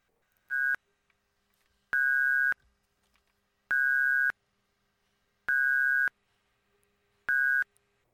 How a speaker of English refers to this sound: Ring, ring. Answer your phones. This is what prank call shows sound like.